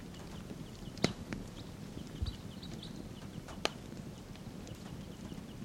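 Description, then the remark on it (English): Wild birds call in a park, around a tree, giving faint, scattered high chirps over a steady low rumble, with a couple of sharp clicks standing out. No one speaks. “Wild birds calling.”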